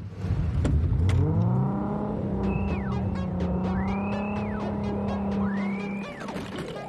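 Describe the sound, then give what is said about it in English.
A car engine revs up as the car drives away and holds a steady low drone, with high squealing tones sweeping up and down over it, then the sound eases off slightly at the end. “Fuzz smiles, giving them a final look before driving away.”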